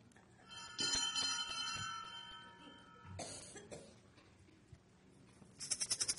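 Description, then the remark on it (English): A bell rings out with a long, shimmering, sustained tone that slowly fades, followed by a brief burst of sound and a quick series of rapid, bright rhythmic rings near the end. “So, she came at the sound of the bell.”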